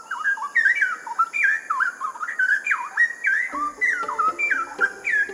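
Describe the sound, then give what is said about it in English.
A straw-headed bulbul sings a loud, bubbling, whistled warble, with rapid rising and falling phrases pouring out continuously, against faint background ambience and no talking. “you can hear their song as you wander through”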